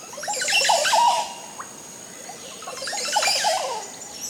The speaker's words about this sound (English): The male Oropendula's connection to the colony is strong, and he'll sing throughout the nesting season. And what a song it is!